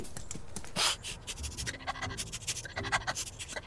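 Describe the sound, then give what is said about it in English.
A dog, Sniffy, sniffs at a bookshelf while searching for its missing leash, in a quick, uneven series of short, breathy snuffles, with one stronger huff early on. No voices are heard. “Go on and give the bookshelf a sniff.”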